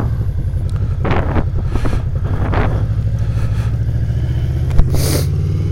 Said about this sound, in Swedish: Sittas på motorcykel på väg mot Ockelbo. Det är om när mikrofonen ligger precis. I vinden eller något, det märker vi.